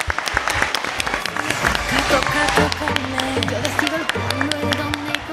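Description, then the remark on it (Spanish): Steady audience applause, many hands clapping in a dense, continuous patter, with faint crowd murmur and a low hum underneath, during a Saturday programme broadcast from the Colegio Fuente de la Reina school. “Un aplauso para”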